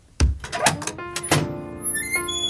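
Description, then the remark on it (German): A door is opened to see who has rung the bell: a solid thunk and a few knocking clatters, then a long, drawn-out metallic creak with steady high tones that lingers to the end. “Kommt, wir machen mal die Tür auf und sehen nach, wer das ist.”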